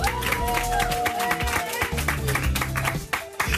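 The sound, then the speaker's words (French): Steady studio audience applause on RTL for guest Francis Weber, a dense wash of many hands clapping at constant loudness for several seconds, with faint sustained tones running underneath. “Bienvenue sur RTL, merci de nous accueillir chez vous en ce dimanche après-midi et merci d'applaudir notre invité pendant une heure et demie, monsieur Francis Weber.”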